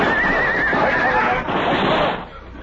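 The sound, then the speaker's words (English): Horses whinny and scream in loud, wavering cries as they go down under high-powered rifle fire on a canyon floor, over a rough, noisy background that carries through the whole short stretch before fading slightly at the end. “Our horses went down, and the six of us were trapped on the canyon floor.”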